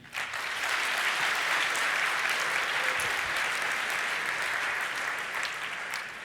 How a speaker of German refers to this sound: Und ich bitte euch um einen warmen Applaus